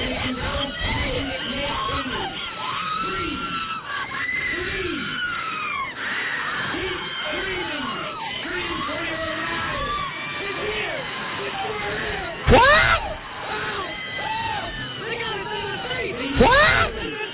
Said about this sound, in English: Ladies and gentlemen, please do not panic, but scream. Scream for your lives.